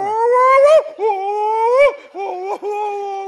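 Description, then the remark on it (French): A wolf howls and whimpers in four drawn-out, wavering cries that rise and dip in pitch, separated by brief breaks, with no talking. “Je parle au loup, j'y parle à la loup.”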